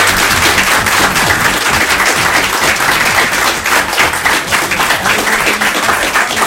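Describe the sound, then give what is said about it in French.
Sustained, loud applause from a studio audience, a dense wash of many hands clapping steadily without pause, with a faint murmur of voices underneath. “Pas un applaudissement pour Valérie, pas un pour Philippe, pas pour Gérard. Tout pour vous.”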